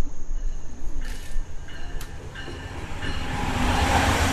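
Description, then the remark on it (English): A Shoreline East commuter train pulls into a station platform as an automated voice announces it and asks people to stay behind the yellow line; the rumble grows louder, with metallic squeals and clanks of wheels and brakes building toward the end. “Train approaching. Please remain behind yellow line.”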